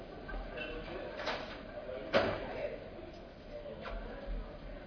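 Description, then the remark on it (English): A door is pushed shut with one distinct thud midway, preceded and followed by softer bumps and rattles, against a quiet, slightly noisy background. “I'm going to close that door.”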